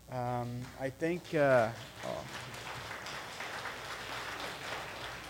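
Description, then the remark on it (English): A crowd at Yucaipa claps for the speaker steadily for several seconds after a brief burst of whooping, cheer-like voices. The clapping forms a dense, even patter that holds at moderate loudness to the end. “Last time I got an applause like that was my last Sabbath here.”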